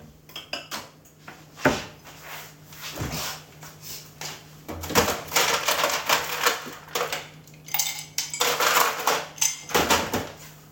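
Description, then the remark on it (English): Ice cubes clink and rattle against a glass of water in an irregular stream of bright, sharp taps, some bunched into quick clattering bursts, with no one speaking over them. “That's ASMR. Sound of ice cubes.”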